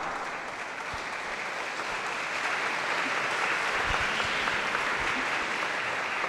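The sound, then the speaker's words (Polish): Sustained applause from a sizable audience for guests in the National Sanctuary of St. Joseph, a dense steady wash of clapping that swells slightly partway through and continues throughout without any talking. “Wielkie, wielkie brawa.”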